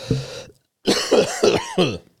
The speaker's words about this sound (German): Ich kann original husten. Original? Es ist wichtig, dass man dann original kann. Das ist ein richtiger Husten.